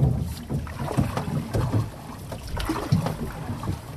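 Canoe paddles dip and pull through the water of the Mississippi River in a steady rhythm of soft splashes and swishes, with gusty wind rumbling underneath and no voices.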